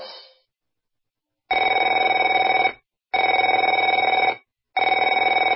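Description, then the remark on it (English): A telephone rings loudly in long, even bursts: the tail of one ring, then three full rings separated by short pauses, each a steady, bright trilling tone with no voices. “Afraid to answer it?”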